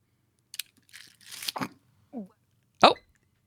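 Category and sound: human body sound, coughing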